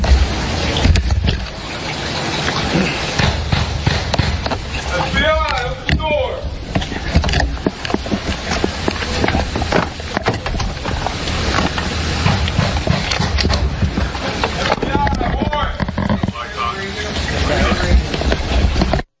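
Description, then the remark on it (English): Loud, repeated pounding on a door in an uneven, insistent rhythm, with men shouting over the banging through most of the stretch: FBI agents banging on Roger Stone's door in the morning, yelling 'FBI warrant, FBI open the door.' “There you can hear the FBI banging on the door of Roger Stone, yelling, FBI warrant, FBI open the door.”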